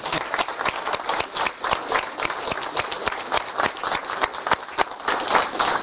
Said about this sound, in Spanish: ¿Alguna persona nueva puede ponerse de pie? ¿Personas nuevas? Un aplauso para ellos.